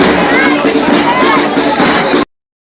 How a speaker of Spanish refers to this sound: ¡Fuerte ese aplauso para el batón ballet del Liceo Llanos de Pérez!